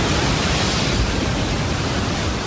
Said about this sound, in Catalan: Estem escoltant... Això podria ser qualsevol cosa, però són onades. És el mar.